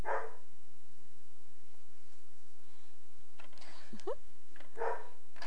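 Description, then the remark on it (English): A few short, sharp woofs sound out, spaced apart, a voice playfully imitating a dog's bark with "ruff, ruff", over a steady low electrical hum. “What's doggy say? Ruff, ruff.”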